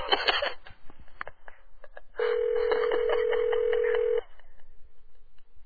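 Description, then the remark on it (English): A phone line ringing while calling a woman back and waiting for her to answer: one steady electronic ring tone lasting about two seconds, then quiet, over faint background noise. “I feel bad because it obviously takes her a while to get to the phone.”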